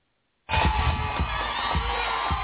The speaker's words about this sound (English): A crowd of onlookers cheered as Chicago's Polar Plunge got underway today. The annual event raises money for Special Olympics in the city.